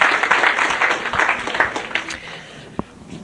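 An audience at a seminar for parents applauds with dense, steady clapping that thins out and fades toward the end, leaving one last sharp clap.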